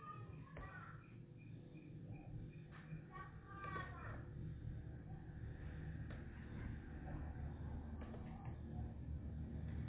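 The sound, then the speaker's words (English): A refuse truck passing by a house rumbles outside with a steady, heavy low engine drone that swells slightly louder as it passes. It sounds muffled, as if heard from indoors. “Oh, and there is a refuse truck passing by my house, so can we just hold on a bit, because we know where we cannot hear each other with this noise.”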